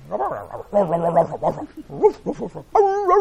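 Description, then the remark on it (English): A voice imitates a dog, giving a string of fairly loud yelping barks and drawn-out whining tones with sliding pitch, ending on a higher whine. “Talking, you know, and dogs, they like to talk, right?”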